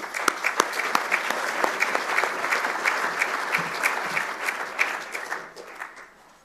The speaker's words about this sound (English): So should we welcome them with a clap?